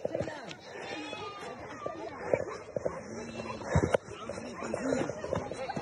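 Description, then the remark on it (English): A flock of running sheep bleats at once, overlapping bleats rising and falling nonstop, with people's voices and commotion mixed in. “In the video, the sheep are running.”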